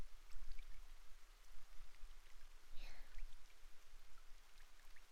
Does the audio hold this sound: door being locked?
no